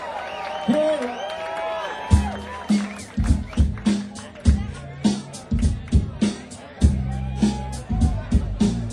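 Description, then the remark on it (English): An audience on a cruise down the Mississippi River applauds and cheers with high whoops and whistles, the crowd noise continuing under a run of loud, rhythmic thumps and hits that follow. “Let's have a nice round of applause for the ….”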